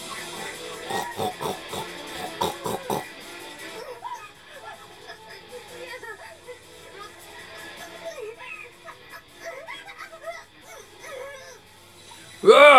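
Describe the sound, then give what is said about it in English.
A man's voice imitates a pig with rough, snorting grunts, a rapid burst of loud snorts at first, then a stretch of quieter, irregular grunting and squealing noises, ending with a sudden loud squeal. “Okay, so he is making pig noises. We have pig noises, folks.”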